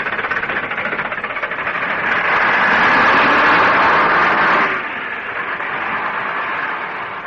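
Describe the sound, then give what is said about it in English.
The heavy engine of an approaching number 11 bus rumbles and roars, growing steadily louder over several seconds, then drops back to a lower, steady drone. No one speaks. “Hey, there's number 11 bus coming.”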